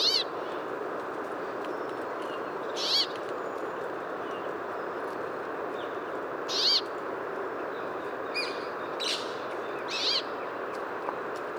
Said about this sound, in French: Donc, le cri vraiment émis en migration. Pinçons du Nord.